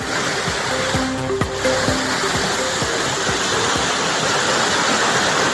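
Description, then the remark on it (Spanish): The Nela river in northern Burgos, swollen by flooding, rushes past in a loud, continuous roar of churning water, steady throughout with occasional low knocks and thuds beneath the surge. No voices are heard. “Ayer así sonaba el caudal del río Nela.”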